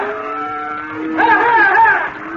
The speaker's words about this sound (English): You see that feller coming this way herding them cows?